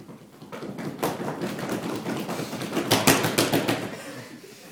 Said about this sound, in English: Thank you very much for those enthusiastic, I don't even know what I want to call them, knocks. Because they're not really knocks.